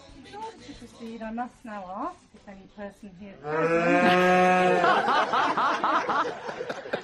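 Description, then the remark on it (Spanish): A very large greyish cow in an adjoining farm field in the countryside lets out a long, loud moo during a wedding ceremony, right after a person finishes speaking, and people burst into laughter as it fades. “Se ve que aparece en una finca contigua que había al lado, en medio del campo, una vaca muy grande, grisácea de color.”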